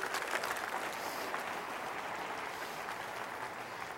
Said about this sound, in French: Quelqu'un devrait dire oui. Quelqu'un devrait applaudir une dernière fois le refuge de Dieu.